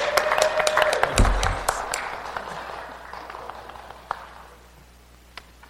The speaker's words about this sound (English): It deserves a great big round of applause.